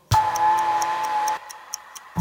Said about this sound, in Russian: Ненароком я услышал, как тикает бомба.